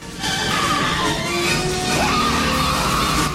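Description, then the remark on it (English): A motorbike crashes and skids at a roundabout, its rider flying off, a loud, sustained burst of scraping and clattering noise with a sliding metallic whine running through it for about three seconds. “At the roundabout, the biker comes flying off his bike.”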